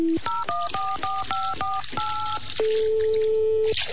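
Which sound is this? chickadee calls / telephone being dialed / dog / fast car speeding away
telephone being dialed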